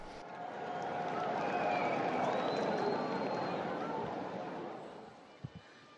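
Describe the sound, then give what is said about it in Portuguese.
A large crowd in Saint Peter's Square applauds the Pope as he appears at the window of the Apostolic Palace for the Angelus prayer; a dense wash of clapping swells, holds for several seconds, then fades, with a few faint cheers mixed in and a couple of soft thumps at the end. “neste momento, então, acabamos de ver que as cortinas foram abertas e o Papa então aparece na janela do apartamento do Palácio Apostólico e recebe aplausos de todos que o acompanham direto da Praça São Pedro.”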